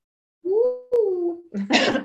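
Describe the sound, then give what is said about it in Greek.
A fairly loud cough with voiced, throaty sounds, a sharp click, then a harsh, raspy burst of coughing at the end, from a person still coughing about two weeks after catching COVID-19. “Και γι' αυτό βήχω, λίγο βήχα, δεν έχω πολύ, λίγο πούκομα και κάποιες φορές μου έρχεται να βήχω.”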